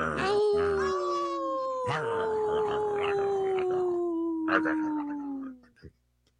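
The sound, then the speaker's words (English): A person imitates a wolf howl, holding a long, steady wavering note for about five seconds before it drops off. The voice is loud, with a rough, slightly breathy tone. “I did a howl while he's chewing on a bone.”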